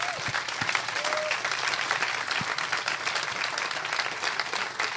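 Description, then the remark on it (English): Steady, dense applause from an audience for the panelists at an Issues and Ale event at Bill's Beer Garden in Ann Arbor fills all five seconds, a loud wash of many overlapping claps with no pauses, and a few brief tonal sounds flicker near the start. “First, could we have a round of applause for our panelists here?”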